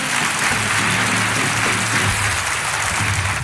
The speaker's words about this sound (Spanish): Fuerte aplauso para Hermano Mayor, por favor.